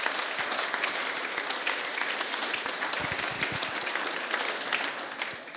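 A crowd applauds steadily, dense overlapping claps forming a loud, even wash of sound that holds throughout before easing slightly at the end.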